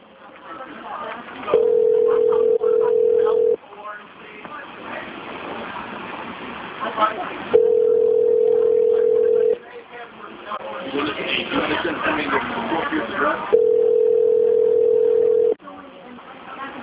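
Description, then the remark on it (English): A phone call's ringing tone sounds three times, each steady buzz lasting about two seconds with long pauses between, over a muffled, phone-line background with faint voices and room noise. “Ringing.”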